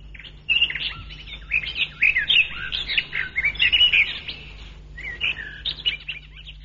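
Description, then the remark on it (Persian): Songbirds sing in a lively, overlapping chorus of high, bright chirps and warbling phrases, almost continuous with a brief lull before resuming; no one speaks. “صدای مرغای خوش آواز توجه او را جلب کرده.”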